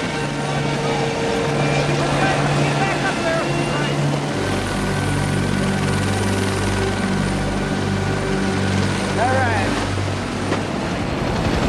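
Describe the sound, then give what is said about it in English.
Loud helicopter engines whine and rotors thump steadily as helicopters take off, the low drone deepening and swelling partway through as the craft power up, with faint voices mixed under the continuous roar. “Pilots get into their helicopters and take off.”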